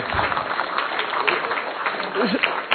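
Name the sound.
audience applauding the speaker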